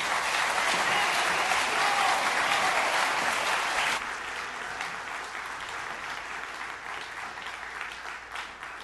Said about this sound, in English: Well, let's give them a round of applause as they walk off.